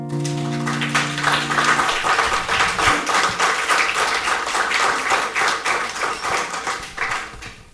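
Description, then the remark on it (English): A sustained musical note fades out as an audience bursts into steady, loud applause after a live performance of an original song: dense, rapid clapping that carries on evenly for several seconds, with no voices over it. “I heard that applause.”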